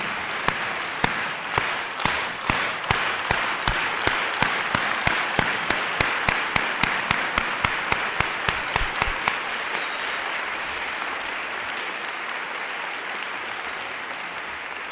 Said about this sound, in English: So at this time, I want to introduce, in my book, one of America's greatest labor leaders that we've had in our history, Dolores Huerta. Let's welcome her with a farm worker clap.